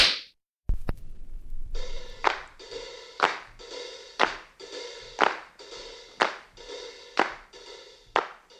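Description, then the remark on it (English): One sharp crack, then a steady run of a dozen or so loud slap sounds, evenly spaced about twice a second, each with a bright, ringing tail. “So let the others hug and kiss, but the bear, facts are this, the bear likes to say it with a slap.”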